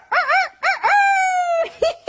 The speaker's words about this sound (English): Rooster.